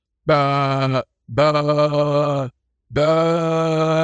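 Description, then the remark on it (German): A person imitates a sheep with three loud, drawn-out bleats, each a steady, buzzy, nasal tone with a slight waver, separated by short pauses. “Zunächst wollte ich dich aber eigentlich dazu auffordern, wie ein Schaf zu meckern, weil ich habe gehört, du könntest extrem gut Schafe imitieren.”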